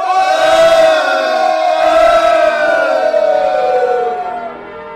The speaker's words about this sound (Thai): จงโห่ร้องเถิดคนอิสราเอล